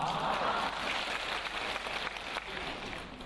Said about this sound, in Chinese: 哎，鼓掌还不稀奇啊，我当场放给你们听好不好啊。